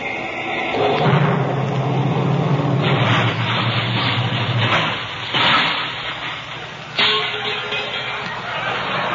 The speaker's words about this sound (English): I've got a tank full of nitroglycerin. What are you talking? Nitroglycerin? Just listen to this motor fart. when I step on the starter.